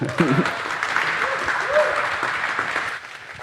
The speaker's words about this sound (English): Then another big applause.